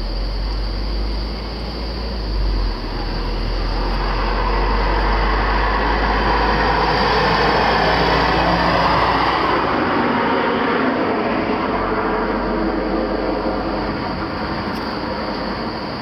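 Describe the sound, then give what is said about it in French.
Road traffic rumbles by, a steady broad wash of noise that swells midway as a car passes, then eases off again. No one speaks. “C'est à cause de ces saloperies de voiture.”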